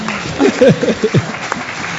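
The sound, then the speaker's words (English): Steady applause from an audience fills the whole stretch, a dense crackle of clapping hands, with a man's voice briefly speaking over it near the start. “Round of applause for that.”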